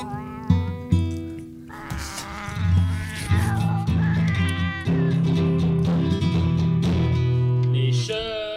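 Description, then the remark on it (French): A man's voice imitates a cat, drawing out a series of whiny, wavering meows one after another for several seconds, fairly loud, with no talking alongside. “Les filles aiment les gars qui imitent les chats.”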